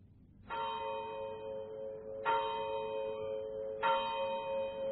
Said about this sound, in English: The clock of the village church was striking 9 as I passed through the lodge gates.